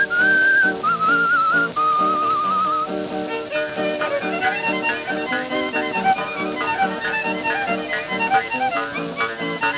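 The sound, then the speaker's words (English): A person whistles a bright, lilting melody over a lively band accompaniment. The clear whistled tune stands out most in the opening seconds, then weaves among the instruments. “If you're feeling happy, whistle all you please.”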